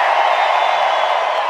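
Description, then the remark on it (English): A huge concert crowd in Brazil screams on a count of three in one sustained, loud roar, thousands of high voices blending into a steady wall of noise with no pauses. “On the count of three, Brazil, raise your hands and scream.”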